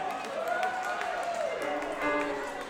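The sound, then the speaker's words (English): An audience in Charleston applauds steadily for a few seconds, a dense wash of clapping with sharp individual claps poking through, while voices whoop and cheer over it. “Y'all give yourselves a round of applause.”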